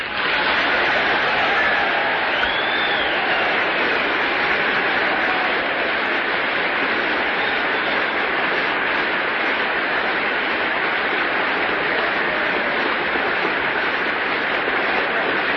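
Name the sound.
audience applause and cheering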